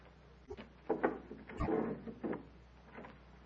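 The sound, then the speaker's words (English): A door is opened: a couple of wooden clunks and rattles, then a dull thud and a brief scraping, all fairly quiet with no talking. “See first who is at the door.”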